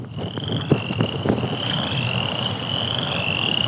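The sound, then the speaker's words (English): A steady, high-pitched trilling chorus of western chorus frogs, a very small type of tree frog, in Indiana, continuous and fairly loud, with a few brief clicks and low background rumble underneath; no one speaks. “So that high-pitched trilling sound that you hear, that's a chorus frog.”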